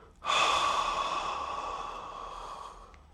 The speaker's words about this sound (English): So just take a long, deep breath in. Hold that. And now breathe out.